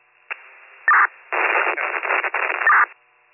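A garbled, band-limited radio transmission crackles through static, with two sharp squelch tones bracketing a burst of indistinct, unintelligible chatter. It sounds tinny and muffled, like a scanner.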